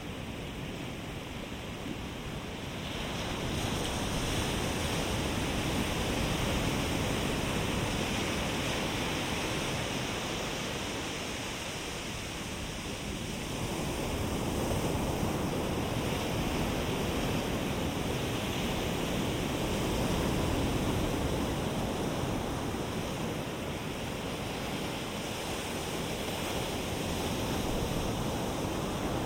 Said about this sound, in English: Now, let yourself imagine that with each incoming wave, the ocean brings peace, healing, and renewal. And with each outgoing wave, it takes away a layer of pain, leaving your heart lighter.